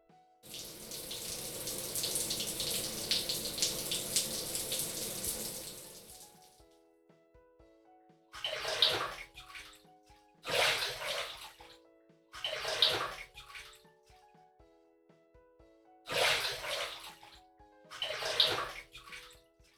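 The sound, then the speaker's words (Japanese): A shower runs steadily into a bathtub for about six seconds, then cuts off; five short, separate bursts of splashing and pouring water follow at uneven intervals, with no voices. “さあ、シャワーをかけて一緒に湯船に浸かりましょう。”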